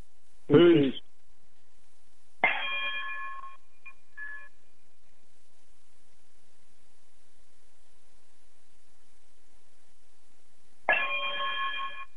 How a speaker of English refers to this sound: Brother Bragg, if you would, chime us out, brother.